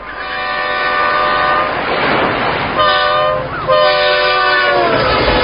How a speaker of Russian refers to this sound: Сотрясая наше прибежище, громыхнул наверху поезд. Над берегом вслед исчезающему составу слетели скучивые дымные облака.